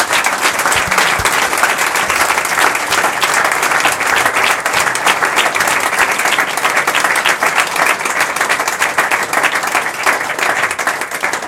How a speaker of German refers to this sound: Großen Applaus für die zwei.